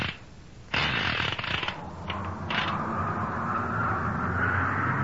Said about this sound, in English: Swiftly as a bird, the car rushes to the foot of the volcano.